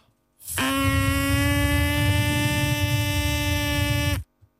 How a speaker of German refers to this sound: Ist eine Tröte geworden.